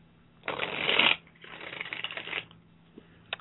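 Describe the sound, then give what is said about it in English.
A deck of playing cards is shuffled twice in quick succession, a loud crisp riffle followed by a slightly softer one, then a couple of faint taps. “Well, I'm just shuffling away here.”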